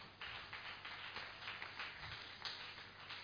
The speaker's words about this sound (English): If you are clapping for me, it's too much. But if you are clapping for Jesus, let's do it some more to the King of Kings.